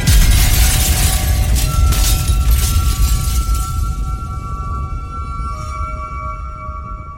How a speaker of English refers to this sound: But the higher they flew, the more slippery the glass became, and they could scarcely hold it, till at last it slipped from their hands and fell to the earth and was broken into millions and billions of pieces.